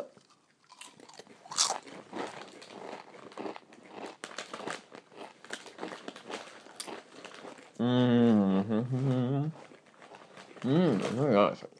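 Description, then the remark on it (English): Crackly crunching of mushroom potato crisps being chewed, a steady run of sharp brittle snaps for several seconds, followed by two short bursts of a voice. “Do you think the Boo Camus probably had enough of us crunching them now?”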